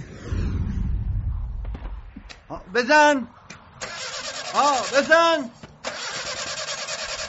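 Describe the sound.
A car engine cranks and rumbles as it tries to start, the low churning fading out, followed by loud voices over a steady hiss, calling to crank it again without giving gas.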